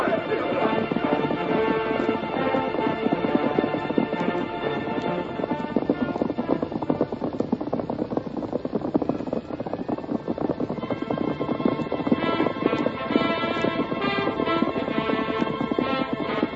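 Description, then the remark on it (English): Horses, one of them white, gallop fast at a steady, driving rhythm as they travel away, hooves clip-clopping loudly and continuously throughout, with dense, busy sound layered around the hoofbeats and no one speaking. “Just keep him in sight as long as you can. That white horse is easy to see.”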